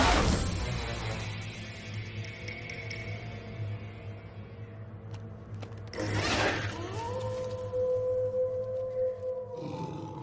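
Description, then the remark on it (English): A timber wolf lets out one long howl that rises and then holds steady for a few seconds, over a low continuous rumble. No one speaks. “I turned, and there before me stood the timber wolf.”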